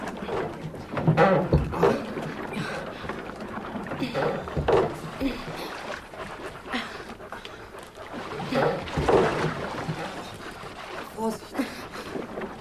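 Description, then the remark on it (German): Oars dip and splash in water as a rowing boat is steered between high rocks jutting from the water, with a few irregular strokes over a steady watery background and some faint breathing or voice sounds. “Soll jetzt nicht George die Ruder nehmen und das Boot hineinlotsen?”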